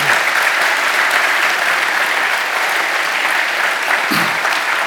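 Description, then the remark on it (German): A crowd applauds two guest speakers for their input at a talk, clapping steadily for several seconds: a dense, even wash of many hands clapping at constant loudness with no talking over it. “Ich danke euch beiden ganz fest, dass ihr da gewesen seid und ich bitte um einen herzlichen Applaus für den Input, den sie auch gebracht haben.”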